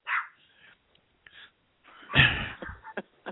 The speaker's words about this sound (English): What doesn't need to be analyzed is, why does this dog always bark when I'm on the freaking radio show? Wants to be heard. Yeah. And I don't know why she's barking.